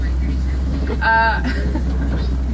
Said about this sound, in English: What was that? I'm so... Was that a train whistle? Yes. Huh. Fun.